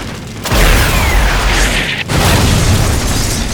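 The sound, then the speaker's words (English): An RPG-7 rocket fires with a loud, roaring blast. About a second and a half later a second heavy explosion follows as it takes out the door of a patio, then a sustained rumbling roar. No voices. “RPG 7, ready to fire.”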